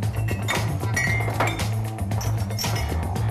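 Several bright glass clinks ring out at uneven intervals, sharp and high-pitched, over a steady low hum, as shot glasses are handled and tapped together for shots of Patron.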